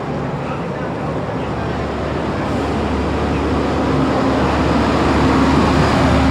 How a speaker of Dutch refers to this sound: De hardste vrachtwagen van Groningen komt eraan.